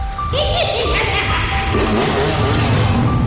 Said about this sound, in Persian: از همه جا صدای موتورسیکلت میومد.